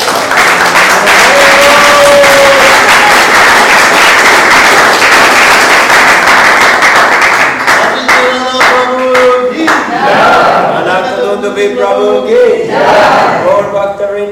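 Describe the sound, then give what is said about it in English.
An audience bursts into loud, dense applause that holds steady for several seconds, then thins as excited whoops and cheering voices rise over the remaining clapping. “So let's give him, please, a big round of applause.”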